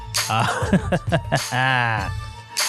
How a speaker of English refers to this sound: Clear my throat is what I'm going to do.